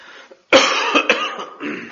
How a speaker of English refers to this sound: I'm going to get a cough attack up here.